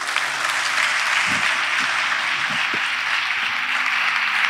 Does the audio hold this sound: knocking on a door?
no